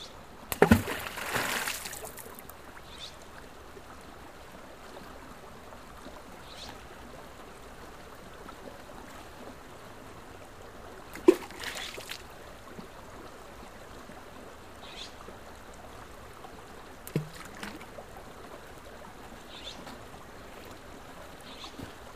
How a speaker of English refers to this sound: throwing rocks into a pool at Pine Creek.